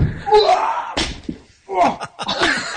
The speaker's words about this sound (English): He lands right on the ice, and it is one of the most painful and funny things you'll see all day.